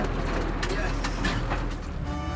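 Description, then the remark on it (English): A bus arriving at a main road, its engine rumbling steadily in a deep idling drone with brief hissing bursts over it and muffled voices in the background. “Our bus arrives,”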